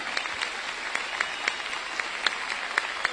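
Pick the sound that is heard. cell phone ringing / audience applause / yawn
audience applause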